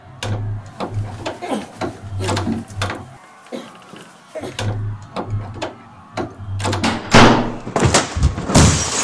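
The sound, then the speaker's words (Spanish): Heavy, irregular thuds and cracking bangs as police force the wooden door of a rectorate building on the morning of 9 September 1918, loud, repeating over several seconds above a low droning hum, with indistinct voices in the background. “La policía ahora está forzando la puerta del rectorado.”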